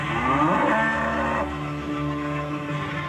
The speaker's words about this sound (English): Do you hear a cow?